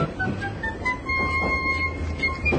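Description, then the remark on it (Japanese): A train rolls steadily along the rails with a continuous low rumble, faint metallic squeals and rhythmic clatter, no voices. “この先電車が左右に大きく揺れることがありますが列車の運行には支障ありません。”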